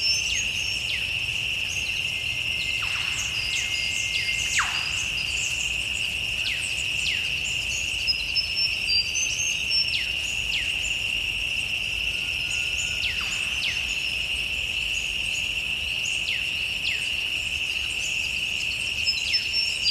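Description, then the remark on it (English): A night-time outdoor ambience on a bend of the Shoalhaven River, south of Sydney, dominated by a steady, high-pitched insect drone, likely crickets, with scattered short descending chirps over a soft low rumble. No voices. “This recording was recorded at nighttime. I'm on a bend on the Shoalhaven River, which is south of Sydney.”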